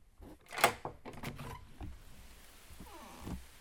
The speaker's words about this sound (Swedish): Ska jag öppna dörren så ska ni få höra regn. Det kan också vara rätt trevligt. Lyssna här.